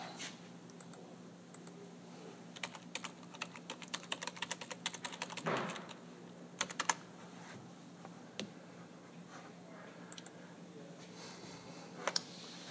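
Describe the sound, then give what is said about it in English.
An IBM Selectric 3 electric typewriter, cast aluminum and weighing about 75 pounds, typing: bursts of sharp keystrokes in quick irregular runs, then sparser isolated strikes, over a steady low motor hum. No voices. “That's the IBM Selectric 3. Cast aluminum, weighed about 75 pounds.”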